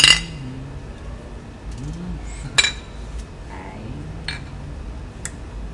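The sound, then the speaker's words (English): Beer glasses clink together a few times in a toast, sharp and clear, spaced irregularly, with a low murmur of voices and background noise underneath. “Cheers to beers.”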